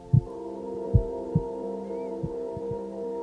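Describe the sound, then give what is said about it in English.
Soft, low heartbeat thumps pulse at a slow, slightly uneven pace over a steady, warm droning hum, with no voices present. “Just observe and feel love pumping through you, around you, with each heartbeat.”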